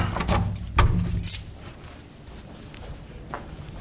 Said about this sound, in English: Grab my keys, and we'll head out. If I use the right key, we'll be okay.